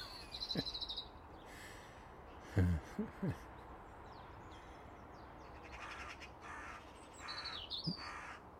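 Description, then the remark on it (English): A big crow gives a few loud, harsh caws in quick succession, declaring its territory over its tree, set against steady outdoor ambience with faint insect hum and brief thin, high bird chirps near the start and end. “Jeez, that was really, really nice to see that big crow just saying, "Hey, my tree, off you go."”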